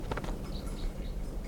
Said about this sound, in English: There's a wild bird down the hill. Type 4, I think.